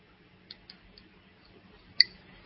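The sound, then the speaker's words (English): Someone takes a quiet sip of water: a few soft wet mouth clicks, then a sharper little click as they swallow, with no talking. “And I'll just take a sip of water.”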